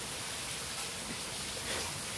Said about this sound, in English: It's probably insane. Yeah, this is insane. You hear this rain? Well, of course they hear it. It's like you can't not hear it.